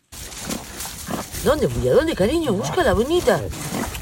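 A dwarf truffle pig in Spain grunts and squeals while rooting in the soil, a quick run of wavering, rising-and-falling calls, after a few softer snuffling grunts at the start.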